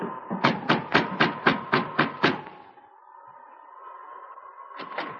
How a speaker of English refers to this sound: went directly to the cabin where Sergeant Preston was staying and knocked on the door.